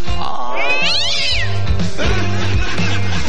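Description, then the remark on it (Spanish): A black cat inside a home kitchen lets out a loud, drawn-out yowl that rises and falls in pitch, then continues with lower, moaning wails. No one is talking. “Estaba un día en mi casa, dice, y adentro de la cocina me encuentro con un gato negro.”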